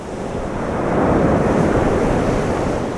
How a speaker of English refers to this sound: The wind is brisk as big waves roll in.